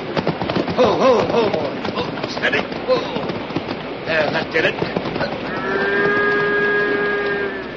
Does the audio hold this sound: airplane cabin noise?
no